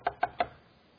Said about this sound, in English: They show up at the house and they knock on the door.